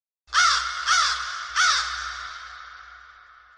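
Three harsh crow caws ring out in quick succession, loud, each trailing into a long reverberant fade with nothing else around them.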